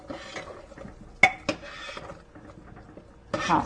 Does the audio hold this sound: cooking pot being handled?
yes